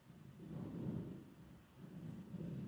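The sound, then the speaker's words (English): Strong wind on a bright, sunny day without rain roars in a continuous low rumble, swelling and easing in gusts over a few seconds, with no voices present. “And it's not raining. That's wind you hear.”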